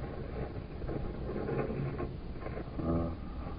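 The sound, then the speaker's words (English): A heavy barn door being dragged open, with a continuous low rumbling scrape and rattling, creaking mechanical noise that swells midway and again near the end. “Let me give you a hand with that barn door.”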